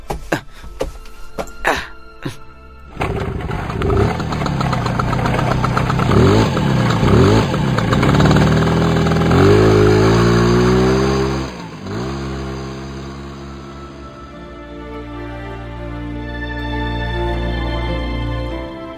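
A few sharp clicks and thumps, then a motorcycle engine starts and idles with a steady low rumble as an elderly man gets on the back to ride pillion, revving up in several rising bursts before settling back into a loud, continuous idle.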